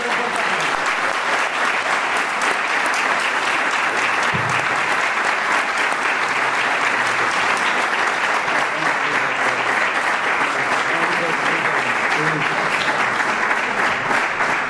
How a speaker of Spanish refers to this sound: Que le demos un fuerte aplauso, porque hasta que no le demos un fuerte aplauso no se va a tranquilizar